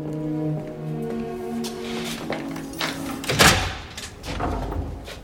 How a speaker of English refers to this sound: A guard approaches and unlocks his cell door.